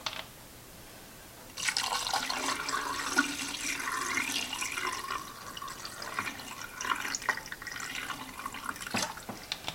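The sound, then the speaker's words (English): Photographic fixer is poured steadily into a film developing tank, starting abruptly after a short quiet moment and continuing as a splashing, gurgling stream for several seconds with no talking. “Again, this is something that we can reuse, so I'm just going to pour it straight in.”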